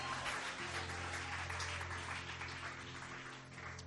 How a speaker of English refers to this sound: Clap your hands and celebrate Jesus.